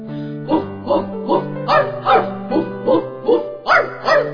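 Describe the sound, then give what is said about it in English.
A dog, Rover, barks in a steady, rhythmic series of about ten sharp, fairly loud barks, each roughly half a second apart, over a low sustained humming tone. “These words were composed by Spencer's dog Rover.”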